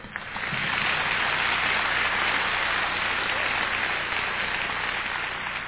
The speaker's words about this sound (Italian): And I want to have some extra special applause for this next young lady, because she sings all those very high notes.